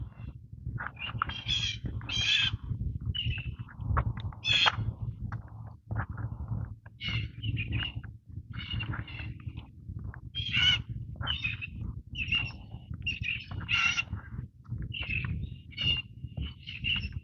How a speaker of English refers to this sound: A plethora of bird calls coming up on it.